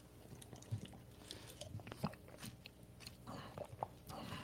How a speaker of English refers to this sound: Hold on, I need another sip of my Once Upon a Coconut.